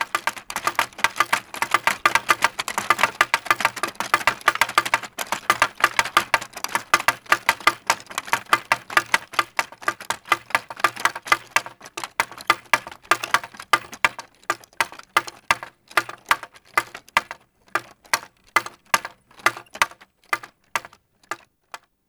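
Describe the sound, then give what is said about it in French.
A wooden bird-scaring windmill, set up by Austrian winegrowers to chase birds away, clatters as it turns in the wind: a fast, dense run of sharp wooden clacks that gradually slows into evenly spaced knocks, with no voices. “les vignerons autrichiens ont mis en place ces sortes de petits moulins en bois qui tournent avec le vent et qui permettent un moyen très naturel de chasser, de chasser les oiseaux.”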